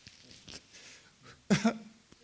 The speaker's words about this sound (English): I hear a sniffle, man, I'm like, it sets me off.